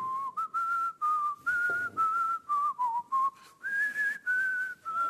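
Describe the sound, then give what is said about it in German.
Someone whistles the first verse of a song's melody, a clear bright tone moving through a run of short connected phrases with brief breaths between them, and nobody talking. “Pfeifst du da gerade die erste Strophe?”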